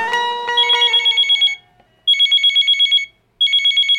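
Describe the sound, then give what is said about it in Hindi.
A telephone rings in bursts of rapid trilling electronic tones, three rings separated by short pauses, loud, with no voices. “रुकी फोन करके रउरा भैया के बतावत।”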